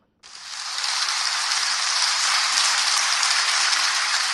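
Sustained, dense applause from hundreds of schoolchildren in Yaoundé, watching on TV as Divina Malum is given the International Children's Peace Prize for 2019 in The Hague, starts abruptly and continues steadily at an even, fairly loud level, with no voices standing out.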